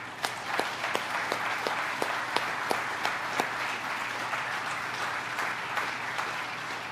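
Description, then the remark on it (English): An audience at an Air Force special operations event applauds steadily to welcome the panel members onto the stage, many hands clapping into a dense, even wash with a few sharper individual claps standing out, holding at a moderate level throughout. “Ladies and gentlemen, please join me in a round of applause welcoming our panel members.”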